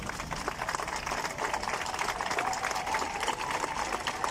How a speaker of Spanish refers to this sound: Y a los becarios ahí aplauden al equipo, eso está bueno.